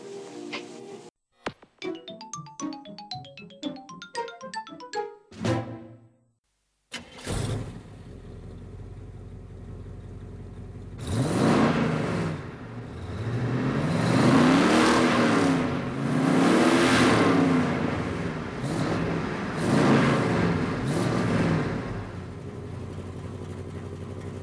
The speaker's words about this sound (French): Je vous l'avais promis la semaine dernière, aujourd'hui, on sort. On va faire un tour en bagnole avec Christine.